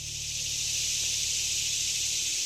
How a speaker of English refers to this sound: A cacophony of cicadas greeted me over the weekend when I visited Loch Raven Reservoir, just north of Baltimore City. If you listen closely, you might be able to hear a goose honking in the background. Or maybe not. Those bugs are loud.